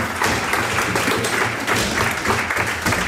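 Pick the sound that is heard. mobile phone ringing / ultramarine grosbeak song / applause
applause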